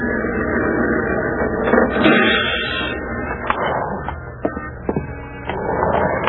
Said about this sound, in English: Ah, here comes my bus.